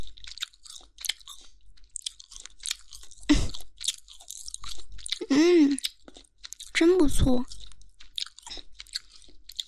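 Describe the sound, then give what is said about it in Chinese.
Wet chewing of juicy, chewy seafood with skin, with soft squishy crunches and smacking mouth sounds, steady and intimate, broken up by a few short spoken phrases. “这一边好像比那一边大一点，更有嚼劲呢。哎呀，还有一些皮皮没有咬完。”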